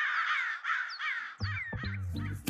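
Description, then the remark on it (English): Several crows caw harshly over one another in a dense, overlapping chorus, loud, with rough grating calls piling up in quick succession and no talking. “That's a favorite for me also because it's got all these different sounds of the birds squawking out together.”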